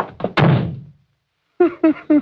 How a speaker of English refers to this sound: You shouldn't have slammed the door, Crane. You'll make him mad.